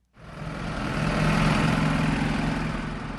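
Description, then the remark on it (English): Steady roar of traffic on the German highway connecting Dortmund with Frankfurt, with the deep rumble of 18-wheeler engines and the hiss of passing passenger cars blending into a continuous drone that swells after a quick start and holds loud throughout. “18-wheelers and passenger cars race down the highway that connects Dortmund with Frankfurt.”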